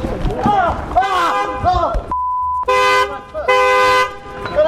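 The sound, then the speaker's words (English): A person talks in recorded footage, then a single steady high-pitched censor bleep already present in the footage cuts in for about half a second, followed by two loud, blaring horn blasts. “Did you bleep the footage, or did it come ready bleeped?”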